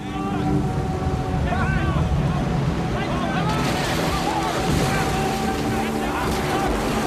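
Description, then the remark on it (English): A paddled boat surges through churning river rapids and down bends in the river, with loud, continuous roaring water filling the scene, and brief voices calling out over the turbulence early on. “They paddle themselves free of the rocks and surge down further bends in the river.”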